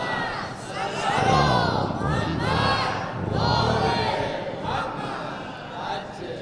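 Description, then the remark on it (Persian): A large audience chants loudly in unison, shouting religious salutations after the name of Surah Muhammad is mentioned, voices rising and falling together in rhythmic waves of group shouting that fill the space for several seconds. “گفتم دیگه اسم سوره رو ببرم شما فریاد درود و سلامتون بلند میشه.”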